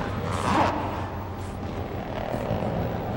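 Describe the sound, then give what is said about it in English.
A helicopter's steady engine roar fills the background, a dense low rumble with a constant wash of noise and no voices over it. “Shocked, Cameron heads back to the helicopter as the two brawny men move toward the bodies.”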